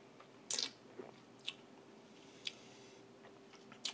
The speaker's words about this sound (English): I had it sit for around 45 minutes to breathe in a decanter, so it should actually be ready right now and not be oversit. So let's take the first sip and see how it is.